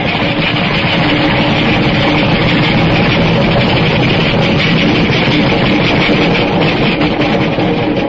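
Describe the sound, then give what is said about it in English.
An express train rushes past in a loud, steady roar of rumbling and rattling that holds at full strength for several seconds, with no voices heard. “Wait till the train goes by and hang on to your teeth. It's an express.”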